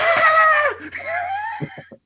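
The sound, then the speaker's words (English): A person lets out a loud, exaggerated imitated scream, a shrill, wavering wail that drops in pitch and then rises again, ending with a few soft thumps and breathy sounds. “Hey, dude, that was the best stupid scream that I've heard since Kevin Hart when he be doing this shit.”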